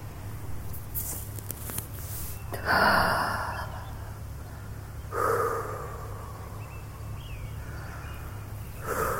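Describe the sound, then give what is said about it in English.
Two breathy inhale-and-exhale bursts a couple of seconds apart, a person taking hits while sitting on a bench outdoors, over a steady hum of traffic and faint birds. “I think two hits is enough right now.”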